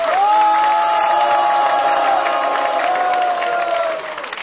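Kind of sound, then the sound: crowd, audience applause and cheering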